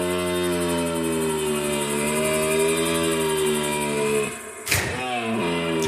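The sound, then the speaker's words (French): A red deer stag bellows during the autumn rut, in early October in a forest, in one long, loud, sustained roar, deep and droning, then breaks off with a short knock before a brief second groan. “C'est bien le brame du cerf hein, que l'on peut entendre normalement sur la période automnale.”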